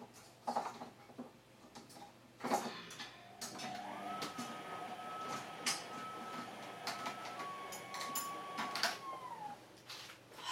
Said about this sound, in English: Bloody washing machine makes funny noises. Yeah, it's just been fixed, supposedly.